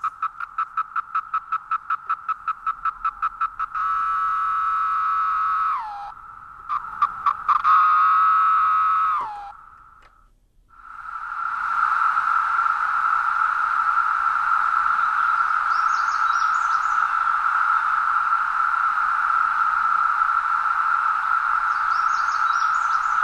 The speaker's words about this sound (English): So that's the 17-year cicada, and that's the whole chorus of them. It's the chorus of what you'd expect in a woodlot that has some pretty good population densities.